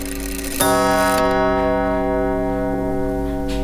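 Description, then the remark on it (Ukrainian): An old clock ticks steadily, then strikes once with a loud, resonant chime that rings on and slowly fades, with no talking. The clock strikes on every hour and once more at each half hour. “І бабуля ще вельми сварилася, коли його уже після смерті моєго батьки в 86-му році перенесли у другую полову дому, ну, тому що він вже мішав там комусь ці спати, бо ну, він відбиває кожну годину і плюс ще один раз б'є кожної півгодини.”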